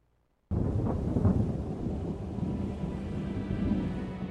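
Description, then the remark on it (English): A sudden, loud rumble of thunder during a thundersnow storm in Chicago erupts after a brief silence and rolls on continuously, deep and heavy, with a steady wash of wind or storm noise beneath it. “You can have your $500 million jackpot in Powerball, but I'll take this thundersnow.”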